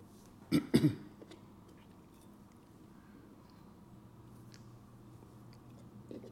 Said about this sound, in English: let me take a sip of coffee.